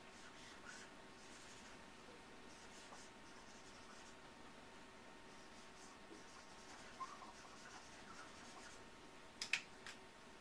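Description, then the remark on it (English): Soft scratching of a pen drawing red triangles and blue squares for a marble diagram, continuous and faint beneath a steady background hiss, with a couple of small taps near the end. No one speaks. “So x's and y's can be of different types, so we're going to show that with drawing red triangles and blue squares to show the different values of different types.”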